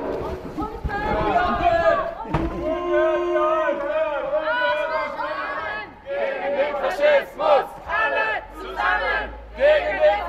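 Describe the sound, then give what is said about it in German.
A protest crowd chants loudly outside a house project in Leipzig-Lindenau, protesting a chimney sweep's fireplace inspection there, many voices shouting together in sustained calls at first, then breaking into short rhythmic bursts of unison chanting. “Wir stehen hier vor dem Hausprojekt in Leipzig-Lindenau, um dagegen zu protestieren, dass da jetzt ein Schornsteinfeger eine Feuerstättenschau macht, der beim Angriff auf Konnewitz beteiligt war und dafür auch rechtskräftig verurteilt wurde.”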